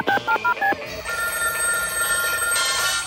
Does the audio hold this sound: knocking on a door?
no